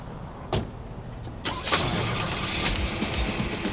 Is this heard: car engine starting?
yes